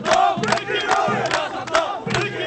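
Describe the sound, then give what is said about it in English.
A large crowd of protesters marching toward downtown chants and shouts their support for Saddam in unison, with loud rhythmic bursts of voices repeating roughly every half second over a constant roar of many people. “Marching from a separate location, also toward downtown, the second group shouted their support for Saddam.”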